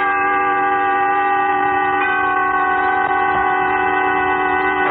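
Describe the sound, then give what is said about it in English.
A train horn blares in a long, steady chord over the rumble of a moving train, loud, sustained for the whole stretch with no voices. “Tonight, you will take a trip on a train, a journey exact in time and place, during which Autolite will recreate an historical puzzle by dramatizing with story and song The Wreck of the Old 97.”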